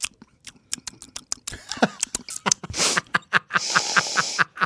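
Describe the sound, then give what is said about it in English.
Wet sipping and slurping of Kirkland Cabernet Sauvignon red wine, with a run of small mouth clicks and smacks, then a longer airy slurp and a hissy draw near the end, no talking. “And so have you taken a sip yet? Here we go.”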